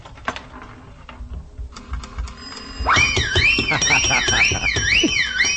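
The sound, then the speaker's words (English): A nickel slot machine clatters mechanically for a few seconds, then bursts into a jackpot payout: a loud, looping warbling alarm tone over a steady rattling clatter of coins. “Well, it's the first time I ever hit the jackpot.”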